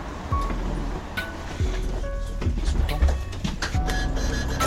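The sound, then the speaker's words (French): A bus rumbles in with a heavy low engine drone, sharp mechanical clicks and hisses, then carries on past amid steady street noise, as the sun comes out. “Ah bah venez, il y a le bus qui arrive.”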